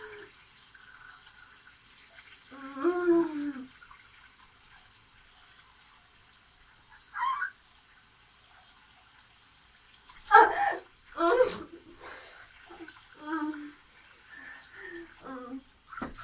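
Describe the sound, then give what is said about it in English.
A shower head runs steadily throughout, a soft, even hiss of spraying water, while short bursts of a person's voice rise over it every few seconds without clear words. “Oh god, the problem with the shower head.”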